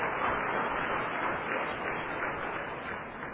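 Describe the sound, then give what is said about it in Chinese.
A church audience on Elders' Sunday claps together to encourage the choir after its singing, in a steady, dense patter of applause that holds at an even level for a few seconds, with no voices standing out. “今日是咱的敬老主日，啊，咱真感谢咱的中春会吼，啊，安尼用足侪时间的练习，啊，用唱真美妙的遮个歌声吼，咱伫咧掌声甲因鼓励吼，多谢因，哈，多谢因。”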